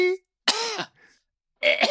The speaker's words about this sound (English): What are you coughing up there? Okay. Wish you could cough up a win.